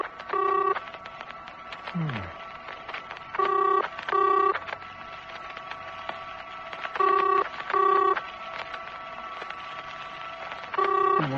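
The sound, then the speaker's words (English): A telephone rings in repeated double bursts, three pairs spaced a few seconds apart, fairly clear, over a low steady background hum, as the Synchro Alarms controlman calls the serviceman in the morning on the 26th of June. “Try ringing him.”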